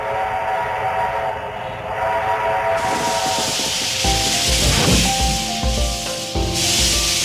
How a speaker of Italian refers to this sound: C'è un suono, arriva un treno.